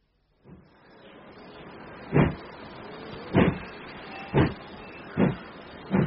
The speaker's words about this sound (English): Not too many traveling out on that train,